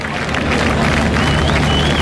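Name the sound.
crowd applauding loudly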